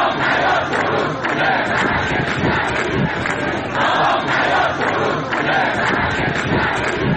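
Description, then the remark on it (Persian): Thousands of Isfahan farmers protest on a Friday in the dry bed of the Zayandeh Rud river, chanting slogans in unison against the cut to their water rights and demanding the river's revival, a loud, dense wall of many voices with a steady rhythmic rise and fall that carries on throughout. “هزاران تن از معترضان در این تجمع که در بستر خشک زاینده رود برگزار شد، با سر دادن شعار خواستار احیای این رودخانه شدند.”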